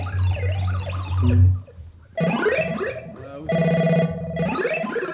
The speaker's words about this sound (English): Could someone answer the phone?